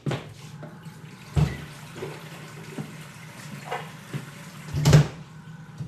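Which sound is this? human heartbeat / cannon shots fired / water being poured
water being poured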